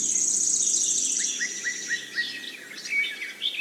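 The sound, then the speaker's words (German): Forest ambience: a steady high insect buzz with crickets trilling underneath, while birds chirp in a quick run of short rising tweets and scattered calls. No one speaks. “Höre auf die Geräusche im Wald.”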